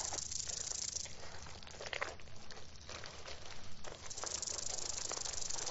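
snake hissing

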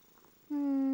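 cat purring

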